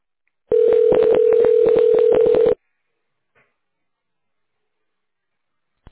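Telephone keypad tones enter an employee's extension number in a company's automated phone menu: a loud steady tone runs for about two seconds with a quick series of key beeps over it, then the line falls silent.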